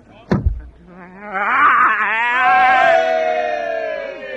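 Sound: sheep bleating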